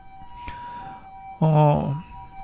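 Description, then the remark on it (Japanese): An ambulance siren sounds as the ambulance drives by, holding steady high 'pee-po' tones throughout, faint but continuous, while a man's voice briefly speaks over it partway through. “なんか救急車がね、走って、今ピーポーピーポーって聞こえてるかもしれないですけどね。”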